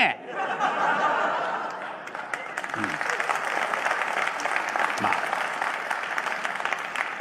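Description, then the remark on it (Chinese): An audience bursts into sustained applause, a dense, steady wash of clapping that holds for several seconds, with scattered laughter mixed in and a couple of low thumps beneath. “整个寿堂就跟你们似的，一块鼓掌。”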